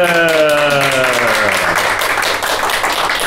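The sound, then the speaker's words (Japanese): An audience at a New Year community roundtable discussion applauds with steady, dense clapping that keeps up the whole time, while a voice briefly rings out at the start, its pitch sliding downward as it fades. “皆さん拍手。”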